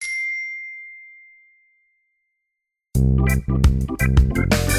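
A single clear bell ding rings out and slowly fades into silence, followed after a short pause by loud, busy music starting up.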